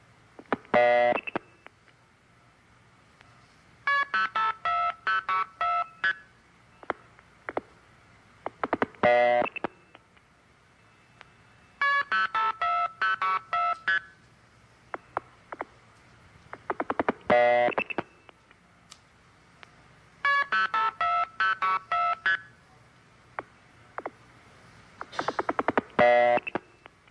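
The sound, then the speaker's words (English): Bursts of telephone multi-frequency signaling tones: rapid sequences of short dual-pitch beeps, each string framed by longer opening and closing tones, the key pulse and the start tone, repeating in several groups with brief gaps and no talking. “There are two tones at the beginning and at the end. One is called the key pulse, and the other is start, and the announcer failed to mention that.”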